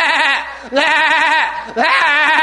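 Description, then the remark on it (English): A person mimics a goat's bleat, three loud wavering calls in quick succession, each a nasal, quavering cry with brief gaps between them. “goats, rams, especially of that side, not the sheep, but the goats and the rams, they're loud.”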